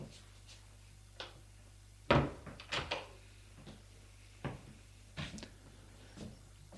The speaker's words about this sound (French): Il a ouvert la porte et le fait entrer.